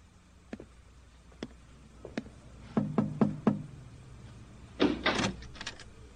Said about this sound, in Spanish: ¿Por qué es que golpea mi puerta con tanta insolencia?